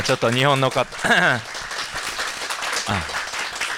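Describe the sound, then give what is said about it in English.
A round of applause in a church, a steady wash of many hands clapping at even loudness for a couple of seconds, welcoming visiting church members from LA as they rise, with a voice speaking briefly at the start and again under it. “So if you don't mind giving them just a round of applause when they rise.”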